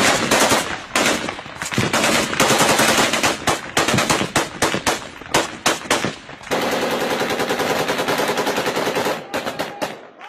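Loud, rapid bursts of automatic gunfire from rebels shooting at a Russian jet pilot as he descends to the ground crackle one after another, then merge into a long, unbroken volley before a few final sharp shots.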